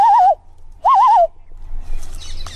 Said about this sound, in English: Check out the view. That bird back there. What are they saying?